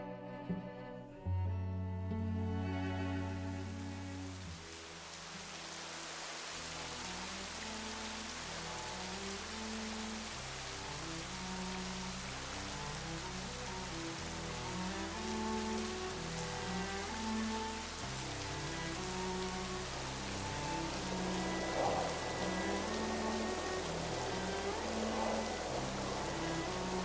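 Steady, dense rain patters and hisses for the whole stretch, blended with slow, low sustained musical tones that step between notes beneath the downpour. No one speaks.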